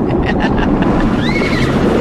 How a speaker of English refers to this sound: Like the horse neigh in there.